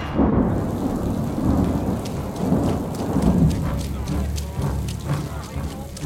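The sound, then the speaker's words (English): A steady, heavy downpour hisses across the whole recording outside a church, with deep rumbling underneath like thunder and scattered sharp drops spattering. “We have brought what lights we could, but in this downpour, it's hard to keep the wicks lit.”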